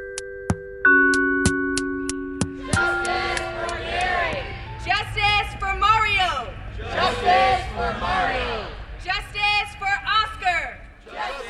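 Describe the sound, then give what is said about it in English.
After a few sustained musical tones at the start, a crowd of voices chants loudly in rhythmic, repeated bursts at a street demonstration in Oakland, California, chanting the names of people killed by police, with overlapping shouts rising and falling. “At a demonstration in Oakland, California, the crowd chants the names of some of those killed by police in recent years.”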